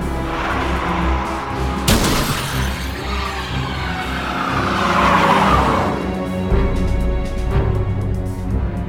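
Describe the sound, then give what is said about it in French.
A car engine roars, with a sharp crash near the start, then tires screech and skid as the car runs a man over, loud and continuous with no voices. “Ce dernier les interrompt pour enlever Ava et envoie Dwight valser à travers une fenêtre et le renverse avec sa voiture.”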